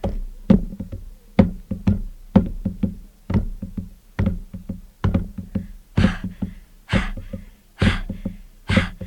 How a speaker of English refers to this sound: Now what are you doing? I'm jump roping.